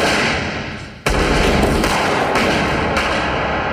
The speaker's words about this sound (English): And then we hear gunshots. Right. And Larry falls out of frame.